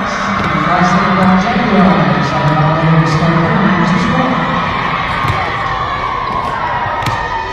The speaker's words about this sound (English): You can hear the crowd behind us here as it's certainly more folks in the stands here for this evening game as there was earlier this morning, but that's pretty typical of things.